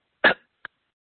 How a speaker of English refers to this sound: Got to remember to take a breath. Why don't we all just take – oh, I got a cough.